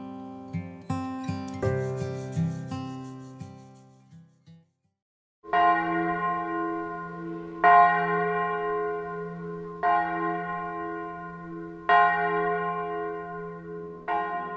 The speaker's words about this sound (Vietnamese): Ở làng đạo, có âm thanh nào quen thuộc và ấm áp hơn tiếng chuông nhà thờ? Tiếng chuông đó, ai cũng nghe từ lúc nhỏ, suốt thời thơ ấu, lớn lên và cả tuổi về chiều xế bóng.